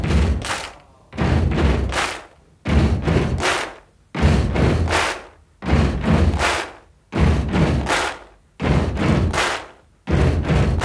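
Heavy, booming drum percussion from a 1977 rock song pounds out a steady repeating beat, loud thumping hits in pairs followed by a sharp crack, looping again and again with no singing.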